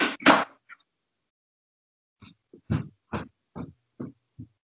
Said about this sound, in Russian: Иди ешь, я сейчас закрою дверь, я занята, еще час не могу с тобой разговаривать.